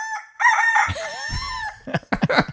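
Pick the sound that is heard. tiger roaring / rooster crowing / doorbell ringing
rooster crowing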